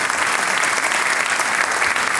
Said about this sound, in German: der Applaus gehört dir, gell?